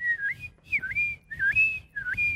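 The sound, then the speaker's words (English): A person whistles a bird-like call, repeating a swooping tonal phrase about four times in quick succession, clear, imitating a seagull. “That's like a seagull.”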